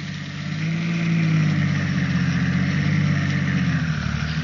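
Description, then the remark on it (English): A press car's engine runs steadily with a deep rumble that swells slightly after the first second, then holds an even drone with a faint wavering pitch, as the car jolts off a shell-pocked main road toward the hamlet of Caude, on the way from Zaragoza toward Teruel. No one speaks. “At noon, the press cars turned off the shell-pocked main road and jolted towards the next little hamlet, Caude.”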